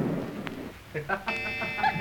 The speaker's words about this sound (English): The clock was striking 7.